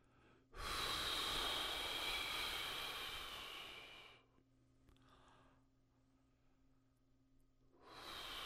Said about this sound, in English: We begin with an extended exhalation and then just spring back quietly. Jaw drops for the inhalation.